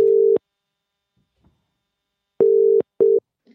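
A telephone ringback tone heard down the line as an outgoing phone call is placed: steady electronic buzzing pulses in a double-ring pattern, fairly loud and clear, with silence between rings and no talking.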